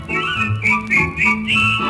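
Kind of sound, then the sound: human body sound, whistling a merry tune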